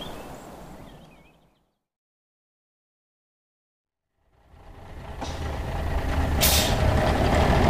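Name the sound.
bus with air brakes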